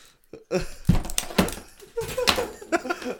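A clattering racket: a heavy thump on a table followed by several sharp knocks and rattles of objects being dropped, with some muffled vocal sounds mixed in.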